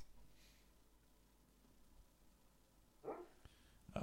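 A dog named O'Neill lets out soft, muffled little barks while asleep and dreaming, two brief ones near the end, over quiet hiss with no one talking.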